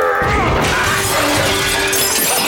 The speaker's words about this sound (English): mallet hit, instead of the red cap, a glass display case full of China miniatures.